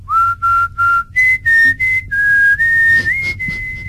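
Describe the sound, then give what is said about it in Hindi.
A clear whistled melody of a romantic song's signature tune, moving through a series of short sustained notes with brief gaps, pitch stepping up partway through, with no talking. “आजकल गाने जो सुनते हो उसमें सिग्नेचर ट्यून में क्या बजता है? सीटियां बजती है।”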